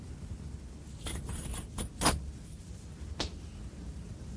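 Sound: keys jangling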